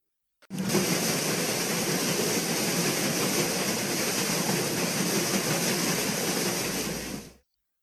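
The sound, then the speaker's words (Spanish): The paddle wheels of a paddle steamer on a river churn and splash through the water in a steady, loud wash of noise with a low rumbling undertone, running unbroken for about seven seconds before cutting off. No one speaks. “Y todos sintieron bien fuerte ahora el chas, chas, chas en el agua.”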